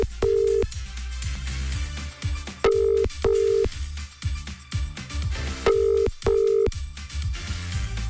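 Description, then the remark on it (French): A telephone ring tone sounds in short paired bursts as a call is placed to a listener, repeating three times at a steady pace, clear and prominent over a constant backing of music with no voices. “Voilà, on va couper quand je dis souvent, quand vous inscrivez, soyez présents pour répondre au téléphone.”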